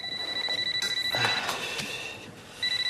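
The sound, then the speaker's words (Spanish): A telephone at Restaurante Santarella rings with a rapid, pulsing electronic trill at a high pitch. It breaks off briefly under a burst of clattering noise, then starts ringing again. “Camina hasta el teléfono.”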